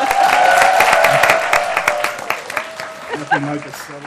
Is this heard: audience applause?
yes